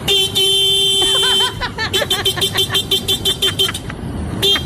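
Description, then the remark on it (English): A man in Brazil mimics a motorcycle horn with his mouth: a loud, steady nasal honk held for over a second, then a quick rhythmic run of short beeping toots. “This is a dude in Brazil doing a spot-on imitation of a motorcycle horn.”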